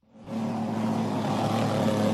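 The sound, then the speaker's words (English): Mosquito spraying equipment, run by officials spraying for mosquitoes against a Zika outbreak in a neighborhood just north of Miami, Florida, starts up and holds a steady, loud motor drone with a low hum and a broad hissing rush over it, continuous for about two seconds with no voices. “Officials, as you hear here, are spraying for mosquitoes in an attempt to stop the outbreak.”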